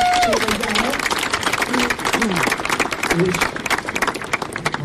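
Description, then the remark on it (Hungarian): An audience applauds a woman who is present among them, with dense, steady, loud clapping that fills the whole stretch while a few voices call out faintly beneath it. “A legelső csobbanáson mindössze 10 fürödtek velem, köztük egy hölgyel, aki szintén itt van valahol, a tapsoljuk meg”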